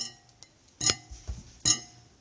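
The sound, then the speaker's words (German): A whisk clinks against a bowl: two bright, ringing metallic strikes roughly a second apart, with a few softer taps and knocks in between. No one speaks. “Nach so einem habe ich gesucht, so ein Schneebesen.”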